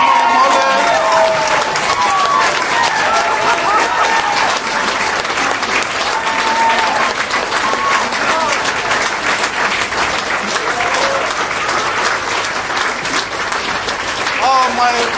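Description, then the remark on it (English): An audience gives a round of applause in honour of someone: a loud, dense wash of hand claps for about fifteen seconds, with a few cheers and whoops rising above it, holding an even level throughout. “If we could all stand up and give a round of applause.”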